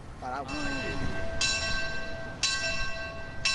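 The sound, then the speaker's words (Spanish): Church bells of the Iglesia de San Lorenzo in Seville, Spain, ring out in steady strokes, about one per second, each clang leaving a bright, resonant hum that overlaps the next, with a faint murmur of voices at the start. “Esta es la de la Iglesia de San Lorenzo, en Sevilla.”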